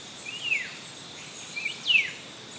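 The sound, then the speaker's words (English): A butcherbird sings two clear, descending whistled notes about a second and a half apart over a steady hiss of rainforest ambience with no voices. “Take a moment to really listen and enjoy this butcher bird.”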